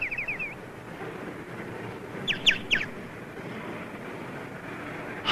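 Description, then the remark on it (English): A bird chirps in short, high bursts: a quick run of notes at the start, a louder cluster midway, and one more at the end, all over a steady windy outdoor hiss. “Hey, that's just like the bird we got at home.”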